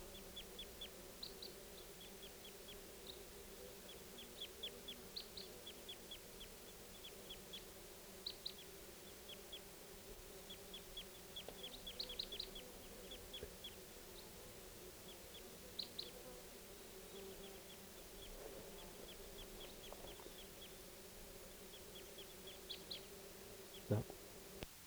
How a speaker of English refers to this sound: Here's the calls of the flock again. I think they're going to take off. They're calling louder.